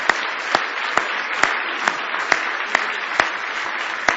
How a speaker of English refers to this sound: Now give the Lord a big hand clap of praise if you love Him tonight.